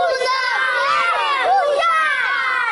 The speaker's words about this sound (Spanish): Pues con ese grito de guerra empiezan todos sus partidos ese equipo pre-Benjamín del Futsal IBI, que ha conseguido esa copa, que es la Copa Intermunicipal.